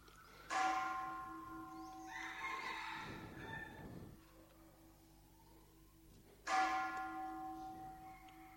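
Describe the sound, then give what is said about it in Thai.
A deep temple bell is struck twice, about six seconds apart, each ring humming and fading slowly, with a brief wavering, rushing sound between the strikes. “เห็นไหมใจมันริ้วๆๆๆตามเสียงนะตอนกระทบน้ำอันหนึ่งนะตอนที่มันระฆังมันคลางเนี่ยใจเราก็วิ้วๆๆๆตามไปด้วย”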